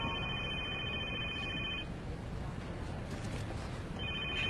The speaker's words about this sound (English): Protocol in a meeting is to put your phone on silent. If it does ring, you answer it.